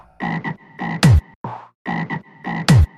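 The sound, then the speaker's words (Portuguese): Loud frog croaks in a rhythmic sequence of short raspy calls, each run ending in a sharp descending squawk, with the same pattern repeating twice and no voices. “Sai sapo.”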